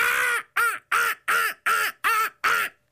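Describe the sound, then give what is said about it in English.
A person imitates a bird call with seven loud, harsh, caw-like cries in a steady rhythm, each short and evenly spaced, with no talking. “I usually only do pigeon impressions, so this one's going to suck.”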